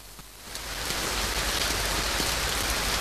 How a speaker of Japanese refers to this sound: 土砂降りの雨の日だった。傘を忘れた僕は玄関で一人、雨が降る空を見上げてた。